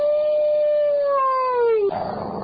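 A single long dog howl, loud, holding a steady tone before sliding downward and breaking off into a rough, noisy tail near the end. No one speaks.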